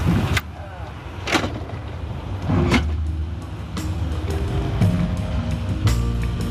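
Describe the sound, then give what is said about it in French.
Steady, even rumble of a moving night train carrying about a hundred passengers through the night, a continuous low roar with a soft hiss above it, broken by a few brief sharp clicks and knocks. “Les heures passent et se ressemblent dans ce calme où le bruit blanc du train berce la centaine de passagers.”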